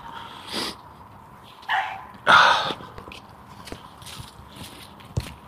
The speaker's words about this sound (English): Oh, dogs. Strange sounding dog.